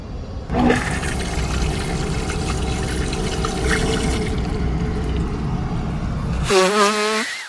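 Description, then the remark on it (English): A toilet in an airplane lavatory flushes with a loud, steady rush of water that roars for about six seconds, then gives way to a brief, wavering high whine as it refills. “All right, I'm in the lavatory now. It's a little quieter, I'm sure.”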